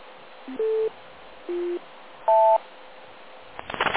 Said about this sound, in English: And as you probably noticed, there are now four tones as a method of making sure everyone waits long enough.